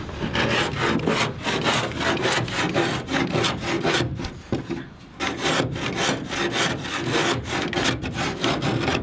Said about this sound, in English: carefully uses a wood plane to shape the edges of the boat's hull.